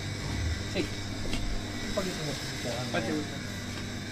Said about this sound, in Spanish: Che, qué ruido que hace esta heladera, ¿eh? Viejita la pobre. Ahí cortó el motor.